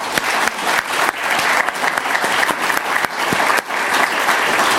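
People at UCSF clap steadily in thanks to Dr. John Greenspan, first dean for global oral health, a dense, even patter of many hands that stays loud and sustained throughout, with no voices standing out.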